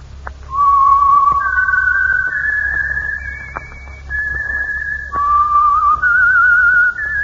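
signature whistled theme tune

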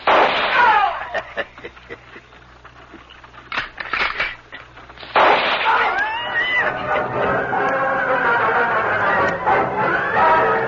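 gunfire

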